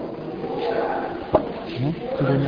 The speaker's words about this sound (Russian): закрой, пожалуйста, эту дверь.